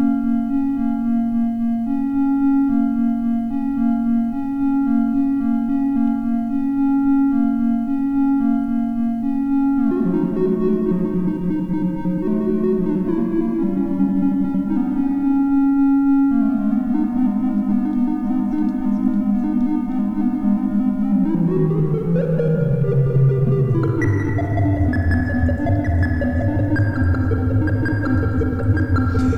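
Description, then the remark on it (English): A steady, loud synthesizer drone, modulated by always-on LFOs through a small filter and AR envelope with reverb added, hums on without pause, its pitch shifting in steps and then sliding downward, with a washy reverberant tail smearing the tones together. No voices. “And you sort of have to dial the LFOs that are always hooked up and always on. And then you got a little filter.”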